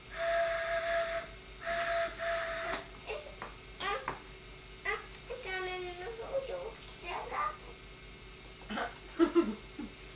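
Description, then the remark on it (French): A toy train whistle with a small toy figure placed on it gives two steady, bright hoots, followed by a child's voice chattering and squealing over faint background hiss. “Bonhomme est sur le sifflet.”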